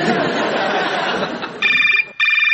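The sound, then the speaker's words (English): A dense wash of background chatter and noise gives way to a telephone ringing twice: two loud, trilling rings with a brief gap between them. “Sorry to keep phoning you and demanding hilarious answers.”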